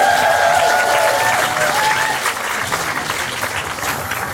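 A live show audience claps for the show's producer in a steady, dense, continuous burst of applause that stays loud throughout, with a few faint whistles or cheers rising over it at the start.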